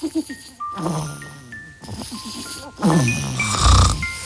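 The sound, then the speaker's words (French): A man snores in his sleep in an Amazon advert, raspy rumbling breaths repeating in an uneven rhythm, with soft tinkling chime tones above and a loud, low, heavy snore near the end. “Presque aussi beau que le son de son sommeil.”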